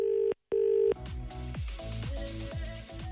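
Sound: telephone ringing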